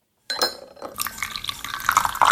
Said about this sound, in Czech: mi u sebe doma nalévá kávu